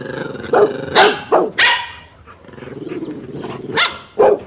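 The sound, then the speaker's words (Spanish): A dog barks in several sharp bursts, with a low, rumbling growl running between the barks. Loud, with no one speaking. “Escuchamos un perro, ¿verdad?”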